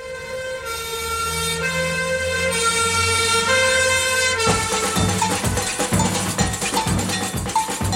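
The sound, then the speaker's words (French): A loud fire siren wails in the middle of the night, calling all firefighters to a burning coffee factory, with sustained tones that shift in pitch, joined after a few seconds by rapid metallic clanging like an alarm bell, with no voices. “En pleine nuit, une sirène appelle au feu tous les pompiers.”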